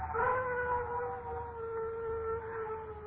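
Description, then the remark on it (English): A dog howls in a long, steady, mournful wail that holds its pitch for several seconds, fairly quiet, with no one speaking over it. “Dogs howl when ghosts walk.”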